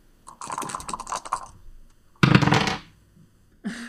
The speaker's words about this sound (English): All of you will roll the dice, and the person with the lowest number is the one who starts the introduction round.